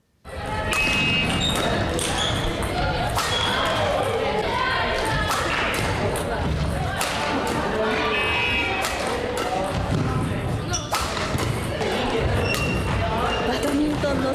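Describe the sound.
A busy high school badminton club practice at Yamaguchi Prefectural Sakuragaoka High School in Shunan, Japan: sharp racket smacks in quick, irregular succession, high squeaks of shoes, and players' voices calling out throughout, all loud and continuous for the whole stretch.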